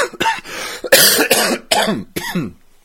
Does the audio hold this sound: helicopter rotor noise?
no